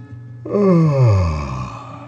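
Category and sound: human body sound, yawn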